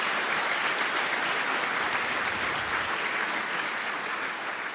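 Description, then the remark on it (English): A crowd claps steadily throughout for the 41 couples brought together by a new hotline, a dense, even wash of many hands with no breaks and no voices rising above it. “I think that's a round of applause, and wish them all of love together.”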